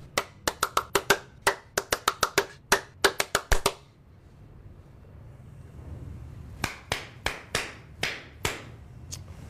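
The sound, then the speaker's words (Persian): Sharp hand claps in a quick, slightly uneven burst of about eighteen, then a pause before a slower run of roughly eight more claps, with no talking. “حالا کف بزن. اون دست زدنه.”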